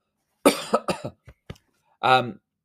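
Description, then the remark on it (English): A cluster of rough coughs in quick succession, followed by a couple of small throat clicks and then a short voiced cough-like burst, all fairly loud. “So I'm slightly coughing anyway.”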